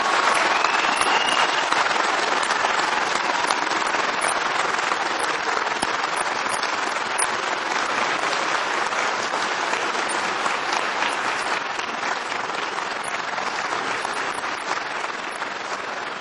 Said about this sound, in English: I would like to invite all the graduates to stand up. All of you, please stand up so we can get a good look at you. Now look around you and give a big round of applause for all the people who supported you.